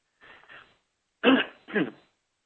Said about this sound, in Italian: Vediamo di capire, scusate questa tosse che ogni tanto mi prende, scusate, vediamo di capire com'è attualmente la situazione in Nigeria.